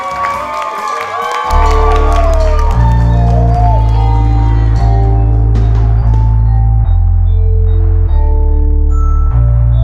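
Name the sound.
audience clapping and cheering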